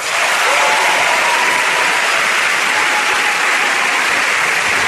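A crowd applauds steadily, a dense wash of clapping hands that holds at an even, loud level for several seconds without any voices cutting through.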